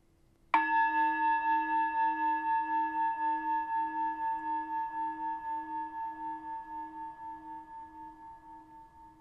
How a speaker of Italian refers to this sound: Per iPad, iPhone, questa applicazione si chiama Mindfulness Bell. Ti faccio qui sentire come suona questa campana tibetana virtuale.